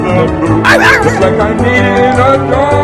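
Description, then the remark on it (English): A mangy old female dog named Peanut barks and whimpers, with a loud, high yelping burst early on followed by steady whining that continues throughout. “To make a long story shorter, I went with my gut, and that mangy old dog is now named Peanut.”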